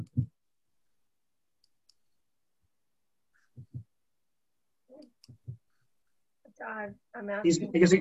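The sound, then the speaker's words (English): A computer mouse clicks several times at uneven intervals, fairly soft, in pairs and singles separated by quiet gaps, as someone tries to unmute a participant on an online call, before a person starts talking near the end. “I'm asking him to unmute, but I'm clicking that. It's not doing anything.”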